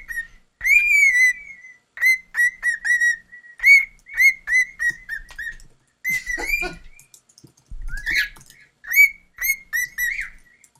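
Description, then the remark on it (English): A pet bird whistles close to the microphone in a rapid series of bright, clear notes and short trills, loud and alone with no talking. “He whistles right at the microphone.”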